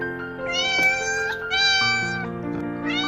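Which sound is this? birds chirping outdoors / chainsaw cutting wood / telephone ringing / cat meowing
cat meowing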